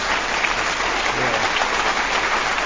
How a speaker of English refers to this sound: We have them nice well trained, don't we? With that applause.